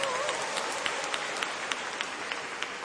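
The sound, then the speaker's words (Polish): A church audience applauds steadily as visiting parish groups from Łódź are greeted, a dense wash of many hands clapping at once, with a few sharper individual claps standing out. It sounds moderately loud and fills the space for a few seconds. “Brawa!”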